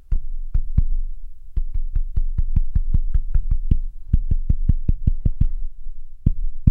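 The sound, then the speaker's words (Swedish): Knuckles rap out a song's rhythm on a tabletop: a run of dull, thudding knocks in an uneven, tune-like pattern, with short pauses between phrases and no talking. “De tycker att det är en rolig lek, att man knackar en låt i typ köksbordet och sen, ja, så, det, och sen så ska jag gissa vad det är för något.”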